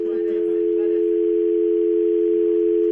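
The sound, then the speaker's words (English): A steady, continuous telephone dial tone hums at even loudness throughout, with faint voices murmuring briefly underneath near the start. “That dial tone paid $20 to do that.”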